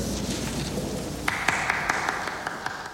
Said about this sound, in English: The one person applauding that speech is the film's central character, Max Fisher.